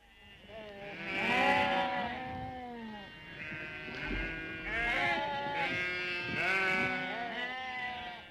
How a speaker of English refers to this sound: All round Blessington and everywhere else, sheep shearing began, with men using the hand-turned or the motor-driven machines.